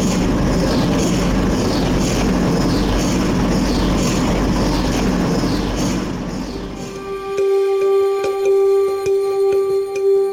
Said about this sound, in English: In the middle of the room is a big white cylindrical machine that makes this strange pulsating noise. It almost sounds like it's breathing.